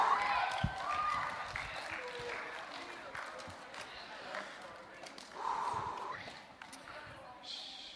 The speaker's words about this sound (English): Round of applause for all of our actors and actresses. Woo!